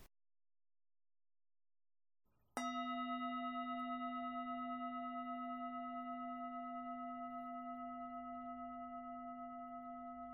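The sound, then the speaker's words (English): After a moment of silence, a meditation bell is struck once to begin a breath awareness practice, producing a bright, clear tone that rings on steadily and fades only slightly over many seconds. “We will begin and end the practice with the sound of the bell.”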